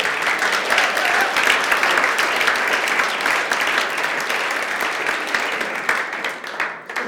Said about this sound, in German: Ja, kann man mal klatschen.